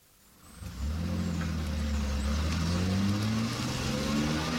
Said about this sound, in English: Very flash car you just got out of. Yes, it's my son's. Oh. He only bought it today. Oh, it's very nice.